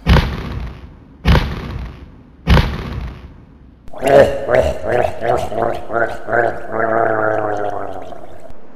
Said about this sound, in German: Achtung Leute, das Tor öffnet sich, tretet zurück.